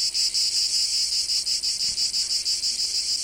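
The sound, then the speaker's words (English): Cicadas buzz loudly and continuously in a shrill, high-pitched drone that throbs with a quick, steady pulse. No voices, and nothing else stands out over the chorus. “Wow, we have their own theme song? Yeah. Cicadas have definitely taken over, right?”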